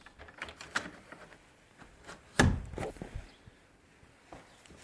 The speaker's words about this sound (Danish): Nu prøver jeg at lukke døren igen.